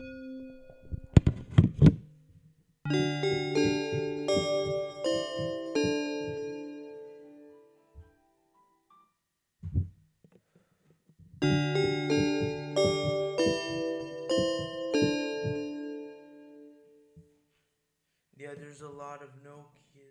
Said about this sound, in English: Or maybe I could find other sound, bell sounds that I could use. Maybe.